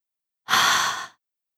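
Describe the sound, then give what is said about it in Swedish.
A single voiceless Swedish H sound, a soft, airy breath pushed silently out through an open mouth and the throat, lasting well under a second on its own in silence, with no voice behind it. “H-ljudet är bara luft. Öppna munnen, andas genom halsen alldeles tyst.”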